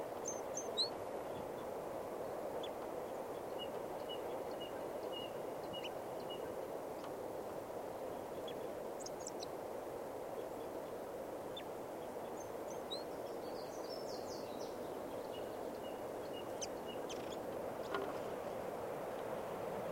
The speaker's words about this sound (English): The party have walked out into the park a little ways, and there's another male here singing a song up in the tip of a branch.